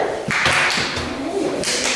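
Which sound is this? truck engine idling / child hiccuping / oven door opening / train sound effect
oven door opening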